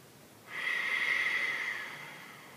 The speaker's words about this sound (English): Keep breathing your ujjayi breath.